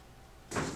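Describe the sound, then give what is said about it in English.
After a moment of near silence, a tape recorder is switched back on with a sudden mechanical clunk, followed by a steady motor whir and hiss. “I've just turned the tape recorder back on.”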